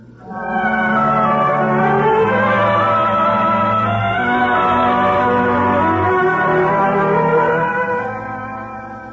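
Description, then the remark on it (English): Several large bells ring loudly together, their overlapping, sustained tones forming a dense, continuous clamor that swells in and fades slightly near the end, with no voices. “I hope we can sleep without those bells clanging over us.”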